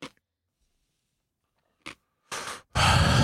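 Crunchy chewing noises: a couple of faint short crunches, then two loud, harsh bursts of crackling, the last one the loudest, with no talking.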